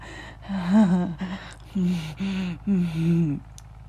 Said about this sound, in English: He's panting.